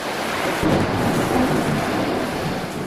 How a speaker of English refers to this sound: there's a storm raging outside. Let's shut that door.